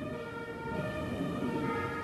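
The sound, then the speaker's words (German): Emergency vehicle sirens (Martinshörner) wail as they pass, in steady, sustained high tones over a continuous low traffic rumble. They hold at a fairly even loudness throughout, with no one speaking. “Wenn wir gerade hier die Martinshörner hören, kamen die auch öfters bei euch vorbei?”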